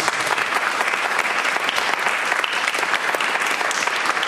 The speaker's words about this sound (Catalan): Fort aplaudiment per ells.